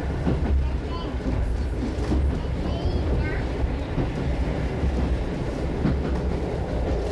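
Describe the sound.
A train rolls steadily along the rails with a loud, continuous low rumble and a faint rhythmic clatter throughout, while a muffled voice is barely audible beneath the noise.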